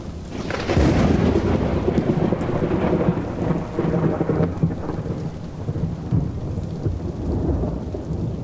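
A thunderstorm rolls in with deep rumbling thunder over steady, heavy rain, the broad roar swelling loudly after the first second and continuing unbroken throughout, with no voices.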